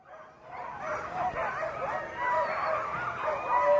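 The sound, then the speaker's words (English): A 14-dog sled team on the Yukon Quest Trail barks and yips excitedly all at once, a dense, overlapping chorus of high yelps and whines that stays loud and continuous throughout, with no voices. “this year he spent February alone with his 14-dog team on the Yukon Quest Trail.”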